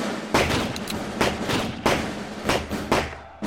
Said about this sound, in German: Der erste Schuss kam von der anderen Seite. Von den amerikanischen Milizen. Definitiv. Wie auch immer, mit diesem Schuss, der um die ganze Welt gehört wird, wie es später heißt, beginnt der amerikanische Unabhängigkeitskrieg.